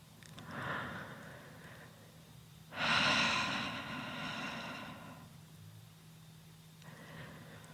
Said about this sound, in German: Atmet hörbar, damit ihr sehr genau spürt, dass ihr nicht allein seid.